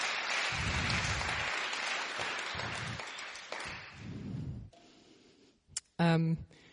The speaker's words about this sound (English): Let's give them both a round of applause again. We love you. So proud of you.